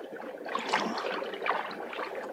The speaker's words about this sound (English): Monkey has discovered a really inviting water pool. What have we got here?